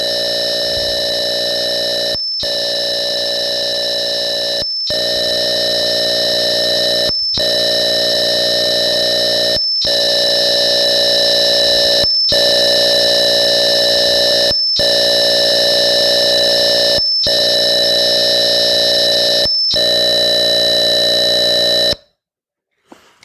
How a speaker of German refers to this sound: dass das Spiel auch wirklich nur ein Kilobyte groß ist, werdet ihr jetzt Zeuge der wunderbaren Tonqualitäten des Ataris werden, der eben dieses Spiel auf Kassette reinladen wird. Es sind nur 45 Sekunden.